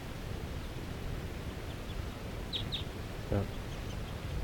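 bird, wild bird calling

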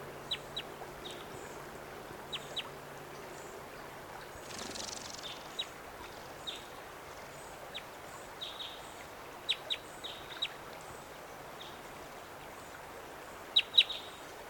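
bird, bird calling

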